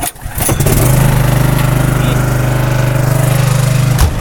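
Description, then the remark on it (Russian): A portable generator on a small, brightly painted bus used as a social centre on wheels cranks and catches around half a second in, then settles into a loud, steady engine drone with a low, even hum and a rapid, regular throb. “У нас есть генератор, который мы включаем. Будет громко.”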